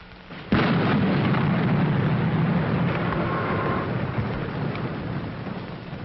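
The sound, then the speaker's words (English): A sudden, loud crack of thunder breaks in, then rolls into a long, heavy rumble over steady pouring rain that slowly eases. No voices. “A lash of lightning, the whip of a hurricane, the onslaught of floodwaters.”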